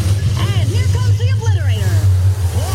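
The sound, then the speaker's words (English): A monster truck engine at a monster truck rally, announced by Flo and JD in a Progressive advertisement, rumbles loudly and steadily at a low pitch throughout, while voices talk over the drone. “Progressive presents Flo and JD announcing a monster truck rally.”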